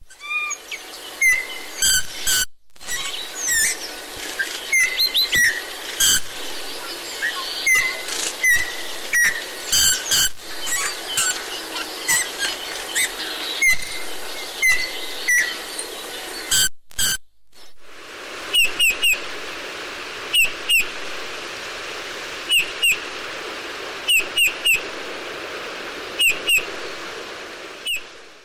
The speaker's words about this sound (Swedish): Men då ska vi höra på den också, för att det är väl inte fågelsången från domherren som man känner igen i första taget?